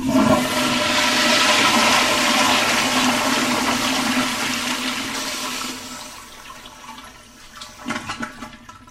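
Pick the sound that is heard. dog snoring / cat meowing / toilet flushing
toilet flushing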